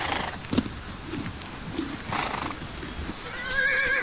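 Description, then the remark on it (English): A horse neighs and snorts in rough bursts, ending in a high, wavering whinny, while hooves clip-clop faintly underneath. No one speaks. “Fossil bones help draw a picture of another well-known grazer, a kind of horse.”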